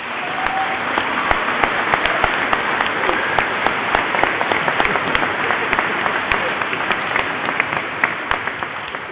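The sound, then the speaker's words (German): An audience breaks into steady applause for the First Communion children, many hands clapping in a dense, even wash that holds at a constant level for about nine seconds without fading. “Den Kommunionkindern dürfen wir ruhig jetzt einmal klatschen.”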